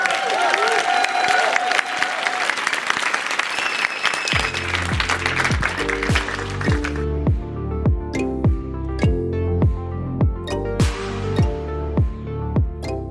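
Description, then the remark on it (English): An audience claps loudly in a dense, steady round of applause for the panelists at the end of a library panel discussion, which keeps going briefly as rhythmic music with a deep bass line comes in over it. “And before we go, can we get one more giant round of applause for”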